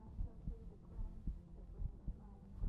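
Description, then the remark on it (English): A quick, steady heartbeat thumps softly, its low muffled beats repeating in a rapid rhythm over a faint low hum, with no voices. “Do I feel your heartbeat? It feels like it's beating out of your chest.”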